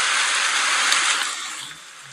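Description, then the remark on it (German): Steady spring rain hisses in a dense, even wash of high-pitched patter with no voices, holding strong for about a second before gradually softening toward the end. “Regen, was hat das denn mit Frühling zu tun?”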